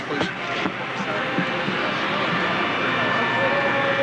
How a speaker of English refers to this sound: Let's see if we can pick up a little of that pool audio feed. It may not be worth it, but let's try just for a second. I hear jet engines.